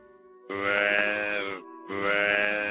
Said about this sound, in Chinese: 这是什么声音？ 是只大鹿，它为什么一直跟在后面不停地鸣叫呢？ 看来这是一对母子啊。 它的叫声好凄凉哦。